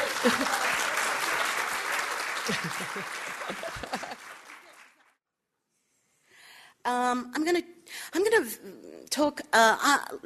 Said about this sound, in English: And then you all have to clap very loudly.